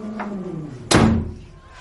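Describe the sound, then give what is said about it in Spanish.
A door swings shut with a single solid thud about halfway through, fairly loud, its impact ringing briefly before fading; a faint murmur of voices precedes it. “Cierra la puerta cuando salgas.”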